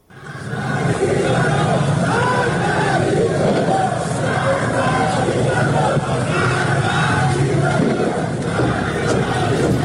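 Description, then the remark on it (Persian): A large crowd of protesters in Iran chanting anti-government slogans together, protesting the collapse of the national currency and the sharp rise in foreign currency prices, a loud, steady roar of many voices that swells in within the first second and holds without a break to the end. “در برخی از ویدیوهای منتشر شده در شبکه‌های اجتماعی معترضان شعارهای علیه حکومت سر دادند.”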